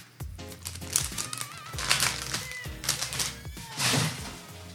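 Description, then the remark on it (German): Two small plastic bags from a set rustle and crinkle in several bursts as they are handled, crisp and fairly loud, with the crackling rising and falling. “Wie ist dein erster Eindruck zu dem Set? Raschelig.”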